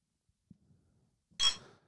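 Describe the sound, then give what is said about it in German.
A single bright clink of glasses touching in a toast, fairly loud, with a short ringing tail after faint low shuffling sounds. “Ich würde jetzt mal wieder anstoßen.”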